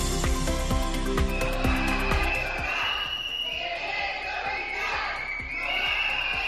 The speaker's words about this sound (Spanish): De nuevo los gritos de los sanitarios, decenas de ellos del Hospital Rafael Méndez, acompañados esta vez por usuarios de la sanidad pública, plataformas vecinales y partidos políticos de izquierda, se manifestaron ayer por la tarde